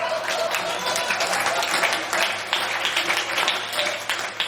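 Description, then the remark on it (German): An audience at a live performance applauding steadily after a story is told, many hands clapping in a dense, even wash of sound that stays loud and sustained throughout without pause. “Denn hört einmal, wie ein Publikum so klingen kann nach einer fein erzählten Geschichte.”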